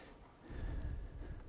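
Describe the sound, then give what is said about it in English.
A single muffled, fairly quiet cough, rumbling low for about a second with no talking around it. “excuse me, my cough.”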